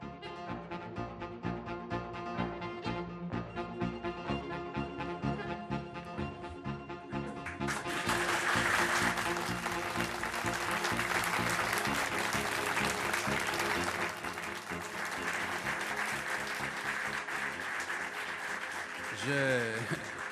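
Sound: audience applause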